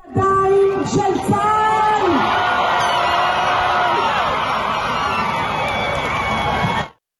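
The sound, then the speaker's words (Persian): Families in Hostages Square in Tel Aviv erupt in loud, sustained shouting and joyful cheering at the news that seven Israeli hostages from Gaza were handed to the Red Cross, with whoops and yells rising over a dense wall of voices for several seconds before cutting off. “با اعلام خبر تحویل 7 نفر از گروگان‌ها به صلیب سرخ، خانواده‌ها در میدان گروگان‌های تل‌آویو فریاد شادی سر دادند.”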